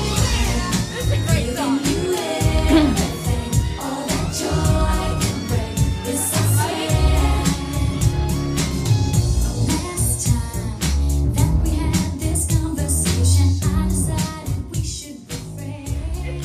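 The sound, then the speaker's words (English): A pop song plays loudly and continuously, with a steady, punchy drum beat driving under layered melodic instruments, and no talking over it. “Okay, if we could play the song clip now.”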